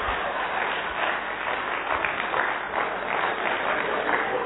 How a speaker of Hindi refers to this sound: आप इतना तालियां क्यों बजा रहे हैं?